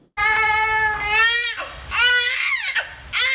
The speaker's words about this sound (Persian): گزارش امید مرزبان در این مورد با صدای یک نوزاد آغاز میشه.